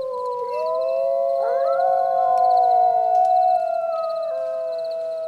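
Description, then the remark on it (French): A pack of wolves howl together in a forest, in long, overlapping sustained tones that rise and glide and echo, forming a continuous chorus that carries steadily for several seconds with no talking. “Toute la meute s'y met et les cris résonnent au plus profond de la forêt.”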